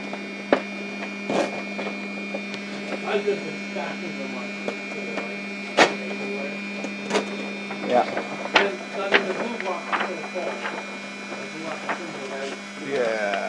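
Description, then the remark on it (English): A printer runs, a steady electrical hum under irregular mechanical clicks and clacks that come every second or so, with muffled voices at times. “Okay, so, and then off, and then on to get it to reset the printer.”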